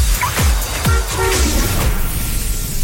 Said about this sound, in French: Voilà, le bruit de klaxon très reconnaissable